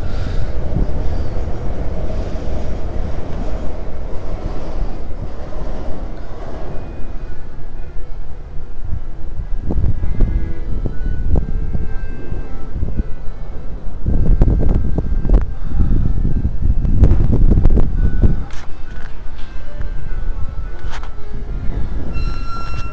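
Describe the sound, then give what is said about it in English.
A train rumbles past, a loud continuous roar of wheels and carriages with rhythmic clacks and metallic squeals, buffeted by wind noise on the microphone. “There's a train about to go past, you won't be able to hear it.”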